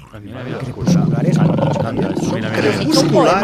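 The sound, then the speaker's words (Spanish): Hyenas laugh in a loud, continuous burst of high, warbling giggles and cackling whoops, several voices overlapping for a few seconds. “Se escojonan las hienas.”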